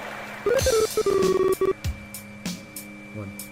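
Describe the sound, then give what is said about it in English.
A quick burst of electronic phone beeps, several short tones in rapid succession, followed by a few softer taps and clicks as a touchscreen is flicked, fairly loud. “Excuse me for my phone.”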